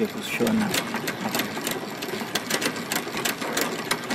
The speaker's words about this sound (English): I am working on spooling. Spooling is the process of placing this thread on the spool so that it can be used in the weaving.